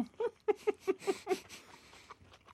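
Wet chewing and mouth noises from two people eating food topped with papaya chutney during a radio broadcast, in a steady rhythm of about five bites per second, then slowing into a few scattered smacks. Nobody speaks.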